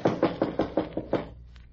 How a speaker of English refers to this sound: Somebody's answering the door. I don't hear nothing. She's listening just inside the door. Why don't you try knocking again?